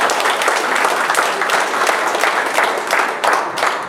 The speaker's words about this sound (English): Give the Lord a hand of applause in that.